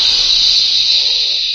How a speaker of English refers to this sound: That jet of fresh, pure moisture stands for the new freshness, new taste, and the new, all-new Rolly 903 cigarette. It's moisturized to stay fresh longer.